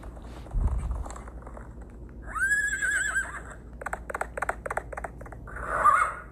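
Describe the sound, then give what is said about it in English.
A horse gives a loud, quavering whinny, followed by a quick run of sharp hoof clip-clops and then a shorter whinny at the end, with no talking. “The loveliest little pony, with such a long tail and mane, and his uncle's big chestnut horse Raja, which had been sent down by train the day before.”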